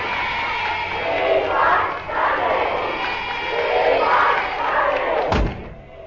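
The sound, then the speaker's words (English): Hundreds of fans gathered outside roar and cheer continuously, with swelling waves of shouting voices, then a sharp thump near the end before the noise begins to fade. “Listen to that. Well, the slaughterhouse is ready.”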